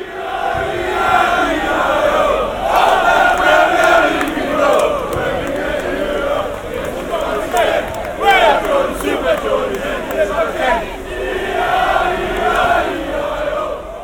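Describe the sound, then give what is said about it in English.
A large crowd of Newcastle football fans chants loudly and without pause on Wembley Way before a final at Wembley, many voices singing together in a rough, rhythmic roar that swells and dips over the whole stretch. “So we're here on Wembley Way with someone who Newcastle fans will know very well”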